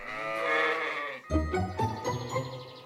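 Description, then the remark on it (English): A sheep bleats twice in quick succession, fairly loud: a long, wavering bleat, then a second, deeper, more broken one. No one speaks. “One sheep, two sheep, three sheep, four sheep, five sheep.”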